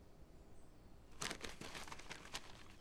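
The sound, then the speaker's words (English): After about a second of near-silence, paper crinkles and rustles in a run of quick, irregular crackles as a letter bearing the Empress's seal is handled, fairly quiet and with no one speaking. “Another piece of paper.”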